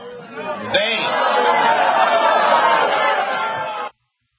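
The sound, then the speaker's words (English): A crowd reacts with loud, sustained cheering and overlapping shouts, swelling abruptly after a brief sharp onset and holding steady for a few seconds before cutting off. “All right, you heard the crowd, so certainly there's some backing still there.”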